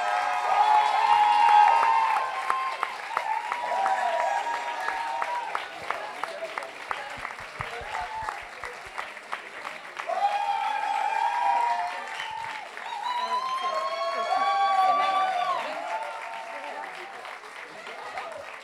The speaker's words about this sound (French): Du coup, est-ce qu'on peut juste, s'il vous plaît, faire un dernier round d'applaudissements pour tous les candidats qui ont été incroyables ce soir ?